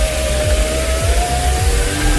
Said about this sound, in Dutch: Maar ik doe vast even het autoraampje open.